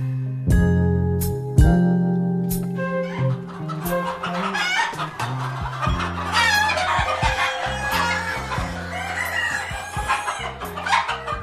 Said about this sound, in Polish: To są kury padewskie, miniatury. Złote z czarną obwódką i srebrne z czarną obwódką.